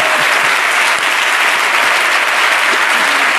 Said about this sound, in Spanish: Vale, un aplauso, gracias.